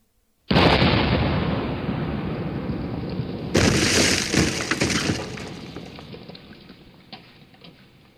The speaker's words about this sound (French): Tout à coup, le navire de guerre s'emplit de fumée et tira son premier coup de canon contre la digue.